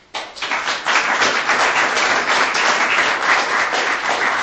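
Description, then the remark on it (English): A crowd bursts into sustained applause at the end of a session to thank the speakers, a dense, steady wash of many hands clapping that swells quickly and holds at a strong, even level without any voices. “Maybe you could just rise with applause at the end.”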